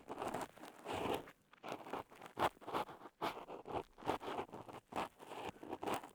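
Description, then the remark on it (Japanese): Crunchy, crackling scratches of earwax that has come out to the entrance of the ear being scraped, coming in quick irregular bursts with brief pauses, fairly quiet and dry-sounding, with no voices. “このポリポリとした音。”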